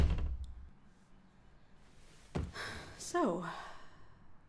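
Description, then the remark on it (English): An office door swings shut with a dull thud and a quick latching click as a visitor closes it on request, followed by a brief creak; soft breathing and room noise sit underneath. “Could you please shut the door behind you?”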